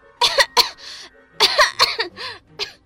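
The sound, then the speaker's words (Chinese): A person coughs in two rapid fits of several harsh, throaty coughs each, fairly loud, with a brief pause between the bursts and no talking, choking after accidentally inhaling thick smoke inside a house set on fire. “不小心吸入浓烟的爱丽丝被呛得不停咳嗽，结果身体也跟着咳嗽声不断缩小。”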